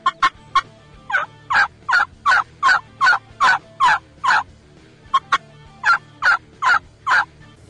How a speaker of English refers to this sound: Don't be afraid to do that high-pitched putt. That'll kill you a lot of fall gobblers. When fall gobblers get excited when you're calling and they're calling each other, their cluck or their putt becomes very high-pitched.